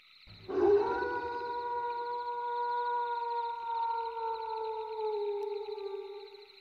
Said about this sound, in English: Oh, wow, I didn't know there were wolves in this forest. I've never heard them before tonight.